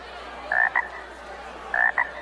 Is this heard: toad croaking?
yes